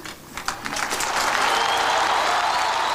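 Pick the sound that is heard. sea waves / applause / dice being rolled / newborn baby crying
applause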